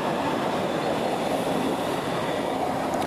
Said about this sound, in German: Sondern mit einer S-Bahn links durchs Bild fahren.